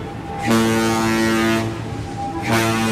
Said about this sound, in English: Oh, here we go. Now, those blasts of the horn signify that there is an emergency.